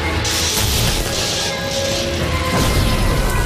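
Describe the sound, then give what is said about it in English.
Loud, continuous mechanical juddering with a deep rumble, overlaid by hissing, crackling bursts that come and go in waves, as laboratory machinery judders to a halt in a puff of smoke and a shower of sparks. “The machinery judders to a halt in a puff of smoke and a shower of sparks.”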